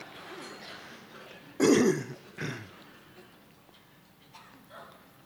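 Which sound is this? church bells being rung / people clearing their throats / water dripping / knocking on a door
people clearing their throats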